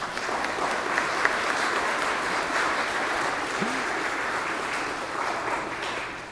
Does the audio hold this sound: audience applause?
yes